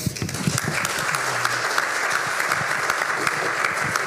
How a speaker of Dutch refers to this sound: En dan eerst even een applaus dan ook ondertussen inderdaad voor...